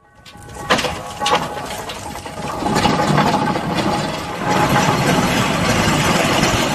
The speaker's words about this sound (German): So klingt ein Lokomobil, das mit Dampf angetrieben wird.